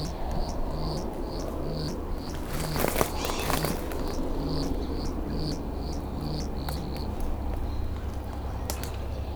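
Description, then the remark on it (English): A steady run of short, evenly spaced buzzy pulses, a hummingbird's shuttle display with its tail-feather sounds, repeating about twice a second over a continuous insect-like hiss and low rumble, with no voices. “There he goes, shuttling.”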